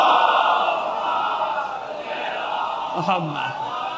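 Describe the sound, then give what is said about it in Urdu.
A large audience recites salawat together in unison, a loud, sustained wash of many voices with a rhythmic, recited cadence, ending as a single voice begins to speak. “اگر آپ کی سمجھ میں آ گیا مسئلہ تو آپ کی صلوات کی آواز بتا دے گی مجھے کہ ہاں.”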